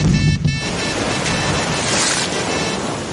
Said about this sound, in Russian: Мура замертво упал в воду, поднимая столб водяных брызг.